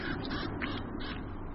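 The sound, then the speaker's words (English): Several hungry crows caw harshly in quick, overlapping bursts, fairly loud, at a dead fox carcass in winter, with a low rumble of background noise underneath and no one talking. “The hungry crows soon regain their courage.”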